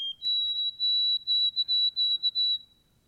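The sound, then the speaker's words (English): White-throated sparrow song: a clear, pure whistled note that steps up to a higher sustained pitch, then breaks into a series of evenly repeated pulses before fading out. “White-throated sparrow.”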